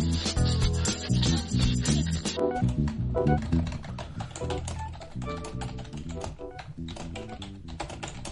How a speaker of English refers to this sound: Is that you typing